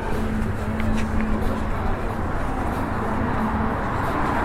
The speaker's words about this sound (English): I am going to try to read this outside Nero. And the tram car goes by. I will pause.